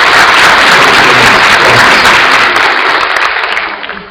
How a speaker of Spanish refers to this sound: ¿Le regalan a ellos un aplauso? Sí. Creo que se lo merecen.